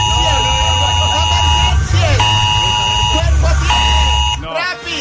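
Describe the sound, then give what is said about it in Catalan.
A loud, harsh Protecció Civil (civil protection) emergency alert blares in steady repeated bursts, a buzzing tone with strong harmonics, briefly interrupted twice before cutting off near the end as a voice speaks over it; the alert is activated over a train derailment at Vilanova i la Geltrú. “Escolti, fora aquest soroll, ja en vam tenir prou ahir de l'alarma aquesta de Protecció Civil.”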